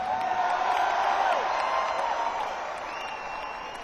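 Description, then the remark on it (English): A crowd claps and cheers loudly, a dense wash of applause with a few whistles and shouts riding on top, easing slightly in the final second. “I think you should give yourselves a round of applause.”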